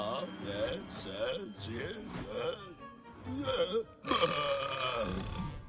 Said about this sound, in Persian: بعدش بهم گفت که آیا میتونم با آروغ زدن حروف رو بیان کنم و من گفتم آره معلومه که میتونم. میخوای بهت نشون بدم؟